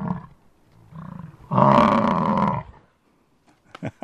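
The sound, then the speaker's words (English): A bison in Yellowstone lets out deep, guttural snorts and a long rumbling roar-like bellow lasting about a second, preceded by softer grunts, with a few sharp clicks and huffs at the end. “Let's get a little bit of that buffalo snort in our ears here from Yellowstone.”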